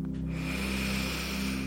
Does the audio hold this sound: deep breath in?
yes